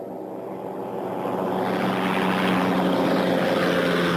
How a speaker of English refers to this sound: But I want you to see this, that it has blinking lights, okay, and combustion and propulsion sound. They are loud.